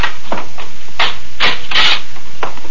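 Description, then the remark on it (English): A door being opened for a visitor: a series of about five short, rough scraping and rubbing noises at an uneven pace, the middle ones louder and hissier, with no voices. “Please, Mr. Daniels, open the door.”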